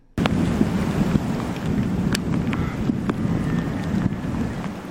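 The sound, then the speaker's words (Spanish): Heavy rain pours down over a flood area in Tasmania, where more than 200 millimetres of rain fell across the island in the past week, in a steady, dense roar that begins abruptly and holds constant, with scattered sharp patters and splashes cutting through. No voices are heard. “Más de 200 milímetros de lluvia han caído en toda la isla en la última semana”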